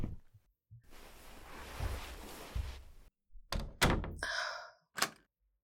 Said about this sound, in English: Let me close the door.